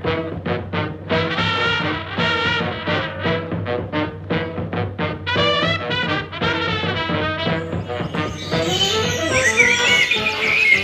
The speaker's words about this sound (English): Isn't that just wonderful? The sound of early morning birdsong, the dawn chorus.